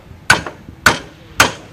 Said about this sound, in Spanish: Y cuatro martillazos nos ponen la piel de gallina. Emocionada cuando veo los tablaos de San Fermín.